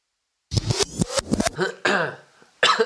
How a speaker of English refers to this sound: That cough signals... Change of battery. So, we've had to change the battery.